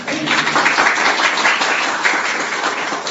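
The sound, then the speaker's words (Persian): A crowd applauds steadily, dense overlapping claps forming a continuous wash of sound for a few seconds, moderately loud, with no talking over it. “جای تشویق نداره ما.”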